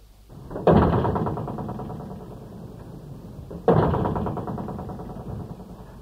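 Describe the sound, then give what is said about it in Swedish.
Two loud door slams land about three seconds apart in the ruins of an abandoned whaling station on South Georgia. Each has a booming metallic ring that slowly fades, over a continuous low, hollow rush of wind moaning through pipes and lifting broken metal sheets. “Dörrar som slår, vinden som spelar i rören, som lyfter de trasiga plåtarna för att sedan för ett ögonblick släppa greppet.”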